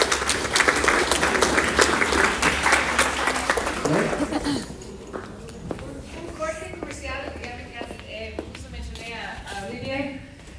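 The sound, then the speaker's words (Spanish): An audience applauds loudly for about four seconds for a group being thanked, a dense patter of many hands clapping, then the clapping fades and a person begins talking. “Muchas gracias al grupo, un aplauso para ellos.”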